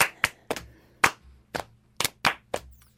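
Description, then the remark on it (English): Sharp hand claps in a steady rhythm, some falling in quick pairs, about nine crisp smacks over three seconds with no voices, like a double-clap pattern used to keep time. “The double clap is just more exciting.”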